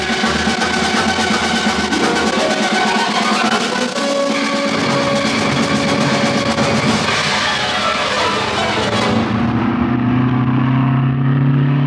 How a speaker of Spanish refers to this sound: Rolando, el hijo de Irene, mira de reojo el carro deportivo que se detiene frente a él.